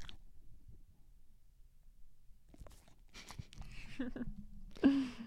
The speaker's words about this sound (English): They're sitting here with beans, like, snuggling on us. More doggy sounds for you.